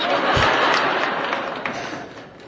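Light, scattered applause from a small church audience during a sermon, a thin patter of claps at a fairly steady level that stays modest and never swells into a full ovation.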